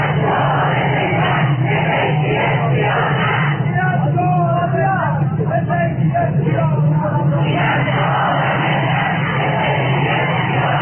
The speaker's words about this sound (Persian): گروه‌های معترض که همین امروز هم در برابر مجلس تجمع کردند و شعار دادند.